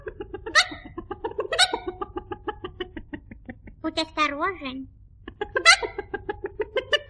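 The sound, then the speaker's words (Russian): Penny the hen from a children's story clucks in a quick, steady stream of short notes broken by a few sharp, rising squawks. A voice briefly speaks in the middle before the clucking resumes, fairly loud. “Кролик Лоппи и курица Пенни нашли Тима возле кухни.”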